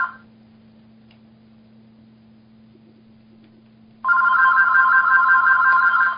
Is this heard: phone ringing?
yes